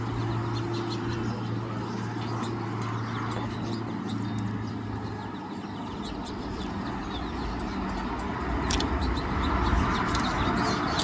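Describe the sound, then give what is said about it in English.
A cluster of small yellow finches at a bird feeder chirps in quick, scattered bursts, their high tweets layered over a steady low hum and constant wind noise, with no one talking. “he thinks they're actually finches.”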